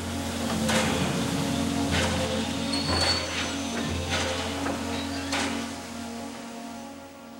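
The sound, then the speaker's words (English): A steam train rolls into the courtyard of a compound below a gatehouse and slows to a halt with a steady low mechanical drone, scattered metallic clanks and bursts of hiss, then settles into a quieter idle near the end. “Pulling completely into the courtyard, the train stops and sits.”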